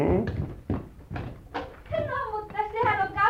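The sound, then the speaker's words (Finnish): A door is opened late on a Saturday evening with a few heavy clunks and thumps, followed by a voice speaking or calling out over the last part. “Joku on oven takana, näin myöhään lauantai-iltana. Minä avaan, isä.”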